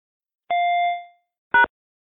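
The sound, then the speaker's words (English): An account verification phone system prompt sound: a bright chime rings out and fades, then about a second later a short, sharp electronic beep sounds, clear with no voices. “After the beep, say and spell loud and clear, as follows, Jones, J-O-N-E-S, and press the pound key.”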